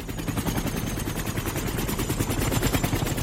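A landing helicopter's rotor chops in a fast, steady rhythm, loud, with a deep engine roar underneath and no voices.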